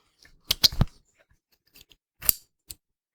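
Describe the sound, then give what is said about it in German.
A shoe's click-dial closure being opened, the foot put in, and closed again: a quick cluster of sharp ratcheting clicks, a few faint ticks, then another short burst of clicking, with no voices. “Klicksystem auf, Fuß rein, Klicksystem zu.”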